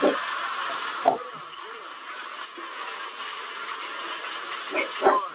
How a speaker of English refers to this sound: Did you notice it? A few dogs, too.